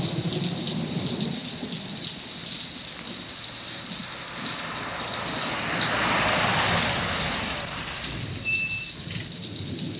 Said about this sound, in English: My car is stalled, and I'm afraid all alone out here in the storm. Yeah, it is raining pretty hard.